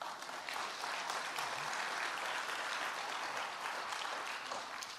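Steady applause from a crowd at Davisville fills all five seconds, a dense, even wash of many hands clapping at once with no pauses and no voices rising above it, welcoming one of the church's elders onto the stage for an interview.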